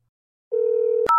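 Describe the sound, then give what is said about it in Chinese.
A telephone ringback tone hums steadily for about half a second, then a sharp click cuts in and a brief, higher two-pitch electronic beep follows as the call connects. No one speaks. “我电话可是要快通了呀。”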